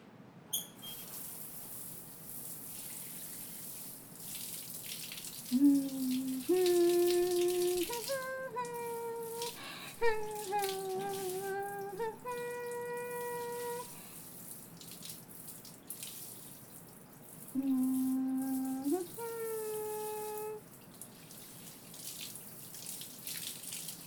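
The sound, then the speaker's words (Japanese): Steady running water pours and splashes, rinsing shampoo from hair while the scalp is massaged during a bath. Someone hums a short melody over it in two stretches. “流すから念のため目をつむっててね。君の方にまで水や泡が跳ねちゃうかもしれないし。”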